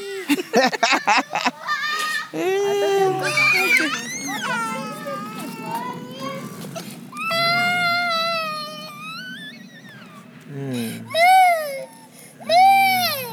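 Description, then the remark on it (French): A toddler cries in long, wavering wails with short breaks between sobs, rising and falling in pitch for most of the stretch. “Non, ne pleure pas.”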